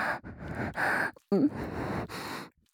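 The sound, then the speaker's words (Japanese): A series of about five soft, airy exhales right at the ear, steady hissing breaths with short pauses between, one catching into a brief voiced gasp midway, no talking. “ねえ、さっきから耳元に吐息が当たるたび体ブルブル震わせちゃってるけど、もしかしてお耳弱いの？”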